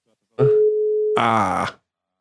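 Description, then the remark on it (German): A phone call placed again to Marco Baldi rings through: one steady mid-pitched electronic beep lasting under a second, then a short, harsh, buzzy burst before it cuts off into silence. “Deswegen klingel ich noch einmal durch.”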